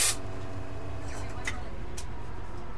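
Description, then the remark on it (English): A barista's espresso machine steam wand hisses into milk, heating it by steam injection, opening with a sharp burst of steam and settling into a steady, roaring hiss with a faint tonal whine that holds throughout. “And you heat the milk with a steam injection into the milk.”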